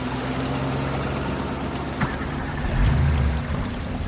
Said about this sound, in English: The water was rising quickly now, but he drove really, really slowly through the water, and I felt a bit impatient.